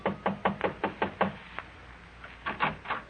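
A series of light knocks on an apartment door in a modest little apartment building on Fountain Avenue near Coenga, about six quick raps in a steady rhythm, a short pause, then three more softer knocks. No one speaks.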